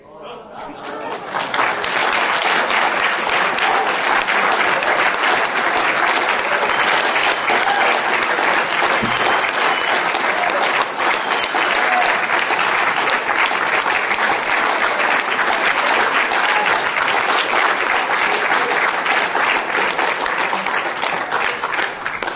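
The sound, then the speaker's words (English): Sustained, loud applause from a large audience at an Alcoholics Anonymous gathering, honouring a 91-year-old man who founded the first Alcoholics Anonymous group in France, a dense wash of many hands clapping that swells quickly and holds steady for over twenty seconds without pause. “Don't applaud.”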